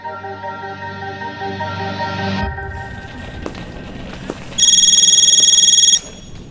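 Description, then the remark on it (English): A phone rings with a bright, rapidly warbling electronic trill that lasts about a second and a half, loud, after a steady low humming drone and some background rustle. “It's just your phone.”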